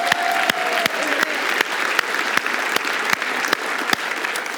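An audience claps in a steady, dense wash of applause, with sharper individual claps standing out roughly every half second over a continuous crackle of many hands, loud and sustained throughout.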